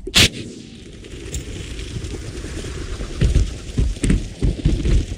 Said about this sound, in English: Fish and Game uses rocket nets, like these, to catch as many female sage grouse as possible.